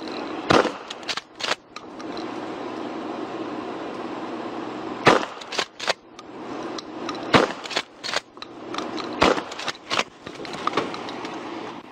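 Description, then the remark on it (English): Several sharp, loud shotgun-like blasts as an El Dorado County Sheriff's deputy fires beanbag rounds to blow out the back window of a car in South Lake Tahoe with a bear stuck inside. The blasts come at irregular intervals over a steady background rumble, with brief crackling after some impacts as the window gives way. No one speaks. “The deputy used beanbag rounds to blow out the back window and, had the immediate effect they wanted, the bear making a quick exit.”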